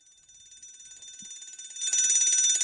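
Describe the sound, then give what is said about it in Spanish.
An electronic alarm tone played from a phone beeps in a rapid, repeating pattern, growing steadily louder and then jumping to a much louder, brighter level near the end. No one speaks over it. “Sí, que vaya subiendo, ¿no? Increciendo.”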